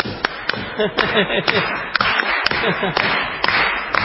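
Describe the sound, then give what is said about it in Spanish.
Sharp hand claps, made by people queuing for a shared hotel bathroom to hurry the engineer inside, ring out in a steady, repeating rhythm, roughly two per second, while voices murmur and talk underneath throughout. “¿Qué le parece si le hacemos palmas?”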